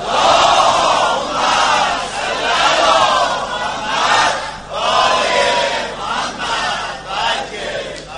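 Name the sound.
crowd loudly chanting salawat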